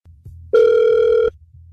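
A single steady electronic ringback tone from an outgoing phone call placed by the radio station Hot 96.9, lasting under a second, loud and clear, with a low line hum before and after it and no voices.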